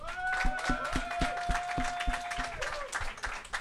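A small group applauds with steady, rhythmic claps, joined by a long, sustained high whistle or whooping cheer that holds, then bends downward before fading as clapping continues.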